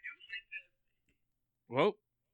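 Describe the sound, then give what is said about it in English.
A thin, tinny voice plays briefly from a small phone speaker as a phone talks, a few clipped bursts in quick succession, followed after a short pause by a fuller vocal sound. “I heard a phone talking.”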